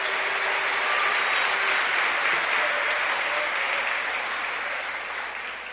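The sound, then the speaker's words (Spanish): Loud, sustained applause from a large crowd, a dense steady roar of clapping given in praise of God that holds for several seconds before easing slightly at the end, with no voices standing out. “Dele ese aplauso fuerte al que vive.”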